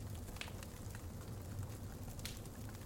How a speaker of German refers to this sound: Dann lauschst du in die Nacht des Waldes hinein. Ganz nah ist das Knistern des Feuers zu hören.